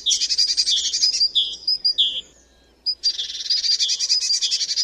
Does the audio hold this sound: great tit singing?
yes